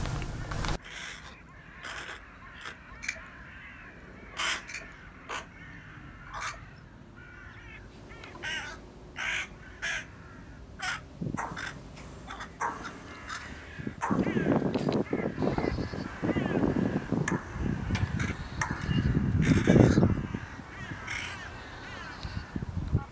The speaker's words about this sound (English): we just want you to bask for a few minutes in the sound of the birds and think about that thought.